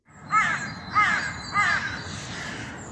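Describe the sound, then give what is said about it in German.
Three loud, harsh caws from crows circling overhead at steady intervals, each a raspy burst, recorded on a mobile phone, followed by a fading low rumble of background noise. No one speaks. “Ja, diese Vögel, die Krähen, die Geier kreisen über mir.”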